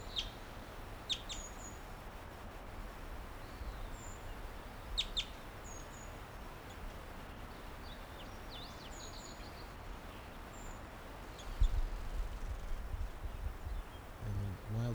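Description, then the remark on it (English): A wild bird chitters and calls in short, high, scattered bursts, some quick double notes, as it flies back up to the low branch of a tree, over a steady outdoor background hiss with occasional low rustles. “That was him chittering back up to the low branch of a tree.”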